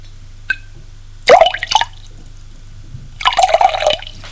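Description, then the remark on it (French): A small splash of milk is poured twice in quick bursts, each a brief liquid trickle, with a faint tick beforehand and a low steady hum underneath. “moi, une goutte de lait.”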